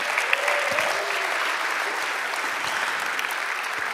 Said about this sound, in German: Und stellvertretend euch für allen anderen Hauskreisleitern, die wirklich ständig einen richtig guten Job machen. So, genau, gerne da auch nochmal klatschen.